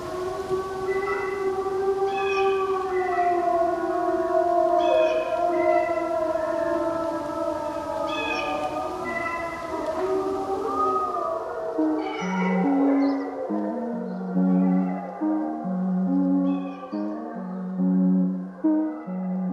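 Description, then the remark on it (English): A crow call morphing into a wolf howl: long, wavering, siren-like tones with a few sharp squawks, then a quick run of short, stepped pitched yelps. No one speaks. “It transforms here into the wolf sound.”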